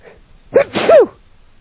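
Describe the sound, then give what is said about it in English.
A single sharp sneeze right up close to the microphone, loud and sudden with a quick intake and explosive burst, then quiet. “Feel free to sneeze if you have to. Especially I did. Especially into the mic.”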